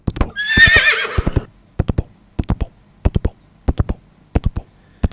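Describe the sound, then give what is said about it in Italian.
A horse whinnies loudly and shrilly in fear, then hooves pound away in a steady, rhythmic clip-clop of galloping as it flees, continuing until the end. “Il cavallo nitrì di paura e scappò via.”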